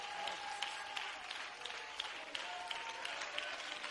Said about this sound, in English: Can you clap your hands louder? Oh, God. Come on, if you've been going through hell revival over the last 5 to 10 years, you need to clap your hands and give glory to God.